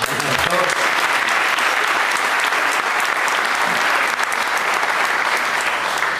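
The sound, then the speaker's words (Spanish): A crowd applauds steadily throughout for fellow brothers in attendance, including some from the United States, a dense, continuous wash of clapping from many hands that stays loud and even without fading. “Y algunos hermanos chinos que están en Estados Unidos, también nuestros hermanos, un gran aplauso a ellos.”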